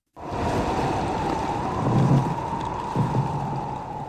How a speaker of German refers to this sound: Ein Eisbrecher pflügt durch arktisches Meereis bis zum Nordpol. Das war Mitte des letzten Jahrhunderts noch undenkbar.